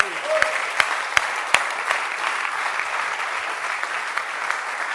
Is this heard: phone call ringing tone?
no